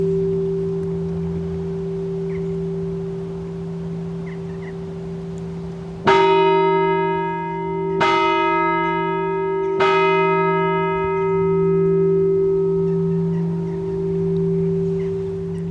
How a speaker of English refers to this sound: And that's the entrance bell now ringing, calling all the monks who are in the fields to come in for their lunch.